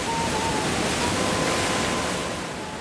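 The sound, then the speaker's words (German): Steady, broad roar of long Pacific Ocean waves washing onto a deserted sandy beach along a highway, a continuous hiss of breaking waves that stays loud throughout and eases slightly toward the end, with no voices. “An einem der menschenleeren Sandstrände entlang des Highways, auf die der Pazifik seine langen Wellen wirft, vertrete ich mir die Beine.”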